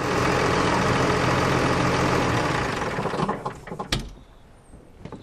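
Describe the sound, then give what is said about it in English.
A loud, steady engine of a red Case Puma tractor idles in a farmyard, then winds down and fades, followed by a few sharp clunks and rattles like a cab door opening and shutting. No one speaks. “I've just come from the farmyard there, driving a Case Puma. It's a red tractor anyways.”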